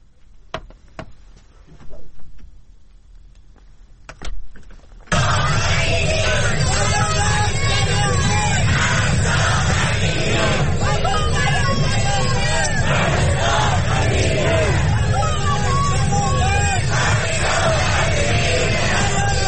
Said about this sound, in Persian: سیدنی، ملبورن و برزبین از شهرهای عمده استرالیا بودند که ایرانیان با حضور انبوه در آنها نام مهسا امینی را فریاد زدند.